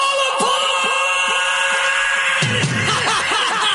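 Loud, shrill screaming fills the whole stretch, sustained and piercing, growing more chaotic and layered partway through as if several voices shriek at once.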